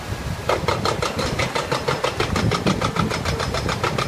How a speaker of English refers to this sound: Elaine Marsh with Friends of the Crooked River watched as a hydraulic hammer attached to a crane began making a hole in the nearly 70-year-old concrete structure in the Cuyahoga River.